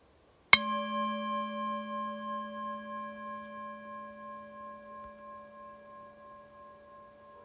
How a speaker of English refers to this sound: I will start with a note of a bell and finish with some chimes. There will be some moments of silence inside of the inside of the meditation, but you will know we're finished when you hear the chime.